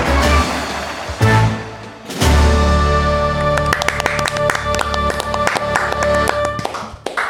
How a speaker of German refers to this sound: Begrüßen Sie mit einem gigantischen Applaus